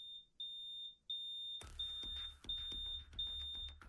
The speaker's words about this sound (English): The fire alarm goes off. Smoke is filling your house. You need to get out.